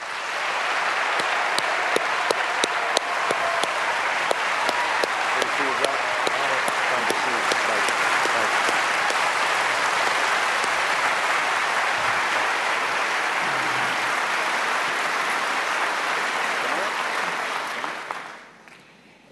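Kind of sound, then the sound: crowd, audience applause welcoming candidates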